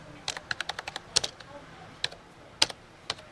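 Quick keystrokes on a computer keyboard in Kampala as customer orders for a delivery service are entered: a rapid burst of clicks followed by a few scattered, separate taps, fairly crisp against a quiet background.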